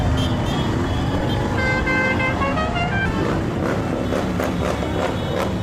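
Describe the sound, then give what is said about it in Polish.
A loud, steady rumble of motorcycle engines rolls by as several horns toot and honk over it, with overlapping sustained blasts early on, as motorcycles open an LGBTIQ+ pride parade on a Saturday evening, with a busy, crowded atmosphere throughout. “Parada na motocyklach rozpoczęła paradę, jest częścią wieloletniej tradycji.”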